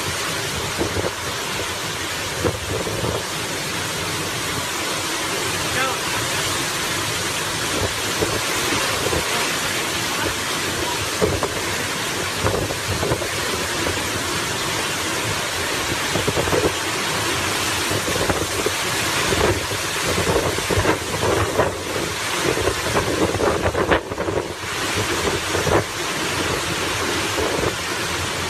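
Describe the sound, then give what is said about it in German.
A loud, unbroken roar of a storm among palm trees in a dry country with little water, with heavy rain and gusting wind blowing steadily throughout, and rumbling thunder blending into the dense noise. No voices. “Diese Bäume, die überleben manchmal solche Stürme und die bleiben stehen.”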